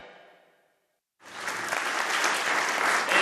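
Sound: thunderous applause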